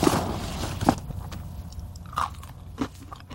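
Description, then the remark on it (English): Dry, crunchy chewing of dog kibble by a person, a few sharp crackling bites spread irregularly over a few seconds against a low background hum, with no talking. “It's just a little kibble.”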